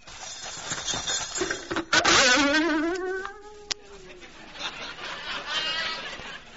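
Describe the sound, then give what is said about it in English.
An alarm clock goes off at 6 o'clock with a harsh, insect-like buzz that wavers and swoops in pitch, sounding steadily for several seconds with a sharp click partway through. “Promptly at 6 o'clock, my alarm clock rang.”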